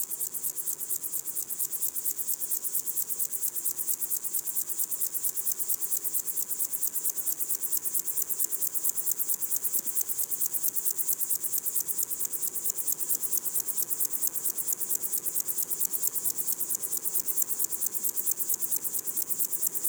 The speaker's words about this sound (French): Là, je me suis installé devant un criquet des adrets, criquet de montagne, dont le son rappelle un peu le fait de secouer une salière.